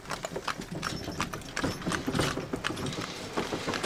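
Steady clip-clop of horse hooves pulling a heavily loaded wagon bringing the harvest home on a farm in Saxony, Germany, with creaking and rattling wheels and harness underneath, continuous and without voices.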